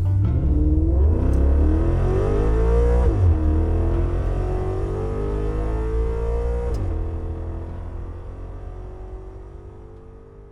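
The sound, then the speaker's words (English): A sedan engine starts and revs as the car backs out of a barn and up a dirt path, its pitch climbing steadily with two gear shifts before the loud rumble gradually fades out. No voices. “He started the sedan's engine and backed out of the barn and up the dirt path”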